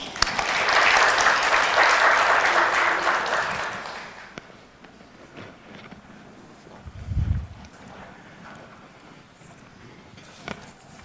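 Audience applause of many hands clapping together in a dense, steady wash for about four seconds, then fading out into low background noise with a brief low thump.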